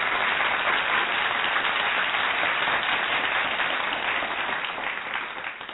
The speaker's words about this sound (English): Wow, that's the first time I've ever gotten an applause. Applause the first time you were here.